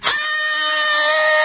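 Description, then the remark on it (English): A man gives a loud, high-pitched scream of frustration, one sustained strained cry lasting about a second and a half, steady in pitch, with no talking around it. “Sitting in a classroom with guys like that made me want to scream.”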